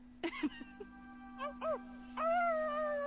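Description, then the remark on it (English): A voice imitates a wolf howl: a few short yelps and rising whoops, then a longer, wavering drawn-out howl, over a steady low background hum. “I'm a wolf. That's my wolf howl.”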